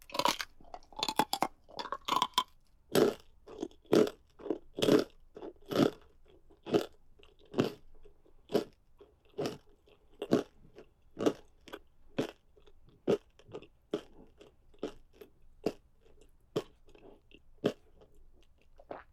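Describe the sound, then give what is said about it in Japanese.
Crunchy chewing on a peach: sharp, crackling bites come in a quick cluster at first, then settle into a steady rhythm of single crunches a little faster than one per second, with no talking. “桃の骨、先に食べよ。”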